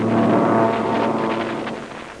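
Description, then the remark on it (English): A couple of American fighter planes peel off and dive down toward a patrol boat: a loud, continuous engine roar with a droning hum that gradually eases off over a couple of seconds, with no voices. “a couple of fighter planes are peeling off. They're coming down here for a look-see.”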